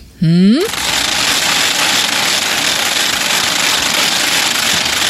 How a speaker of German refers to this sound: Ganz klar, das sind die Ratschen, die man heute statt den Glocken hört. Und natürlich auch heute bei uns um 12 auf Radio Niederösterreich, da gibt's die Mittagsratschen statt der Mittagsglocken.